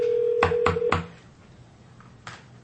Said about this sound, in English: I got calluses on my finger from dialing this phone so much.